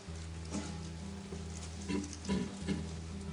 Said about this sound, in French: Doucement, le bœuf et l'âne soufflent sur l'enfant qui s'est endormi.